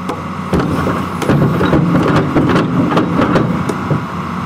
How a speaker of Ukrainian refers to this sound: Екскаватор старанно вичерпує пухку землю, формуючи прямокутний простір. На тренувальному кладовищі, що у німецькому місті Мюннерштадт, триває практичне заняття.